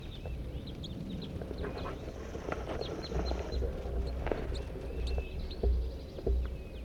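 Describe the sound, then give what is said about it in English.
A wild flock of eight crossbills that just flew in gives short, sharp chip calls, scattered and overlapping at a high pitch, fairly faint over a steady low rumble of background noise. “Oh my gosh, here's a flock of 8 crossbills.”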